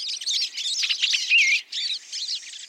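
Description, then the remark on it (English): Birds chirping busily at a backyard feeder, a dense chorus of high, rapid tweets and short calls overlapping continuously, clear with no talking. “The sights and sounds of birds visiting a feeder in the backyard or a local park can brighten our days”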